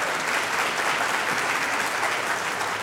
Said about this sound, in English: If you believe the winner was, pardon the expression, slow, applaud.